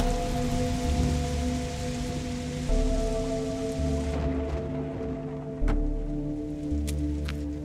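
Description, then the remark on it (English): Steady rain falls continuously over a low, humming drone, with a few sharper drips or taps standing out now and then. No one speaks. “But it's raining, so who knows where they went.”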